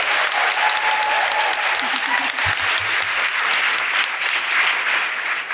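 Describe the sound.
Sustained audience applause, a dense, steady wash of many hands clapping at a loud, even level for several seconds, with a faint low murmur of voices underneath.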